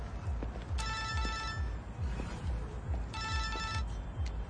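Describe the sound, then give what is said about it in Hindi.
A phone line rings twice on an outgoing call to a person's other number, two steady electronic ringback tones a couple of seconds apart, heard over a low, rhythmic rumbling background with no one talking. “चल उसको दूसरे नंबर पर फोन कर अभी।”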